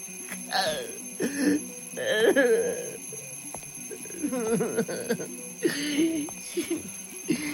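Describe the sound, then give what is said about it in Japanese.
Alarms ring steadily from a clock, a wall picture and a table through the whole stretch, a persistent high electronic tone, while bursts of vocal sounds rise and fall over it. “また鳴り出した。この忌々しいアラーム。”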